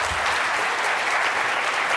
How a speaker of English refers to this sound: That's a cheer.